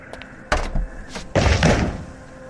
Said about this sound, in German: bleib bitte von der Tür weg. Ich werde sie jetzt öffnen.